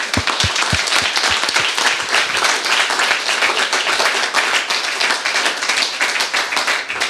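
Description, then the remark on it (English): An audience gives another round of applause for a talk, a dense, continuous wash of many hands clapping at a fairly loud, even level throughout, with a few sharper individual claps standing out at the start. “So first, I would ask for another round of applause for this amazing talk.”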